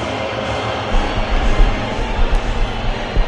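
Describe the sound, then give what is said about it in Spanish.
A dense, steady roar of a large stadium crowd whistling during La Marseillaise, the French national anthem, with Spain as the home side. A continuous wash of noise with low rumbling swells and no clear pauses throughout. “Hubo pitos, ¿eh? Muchos pitos, sí.”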